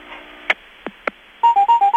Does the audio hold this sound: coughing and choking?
no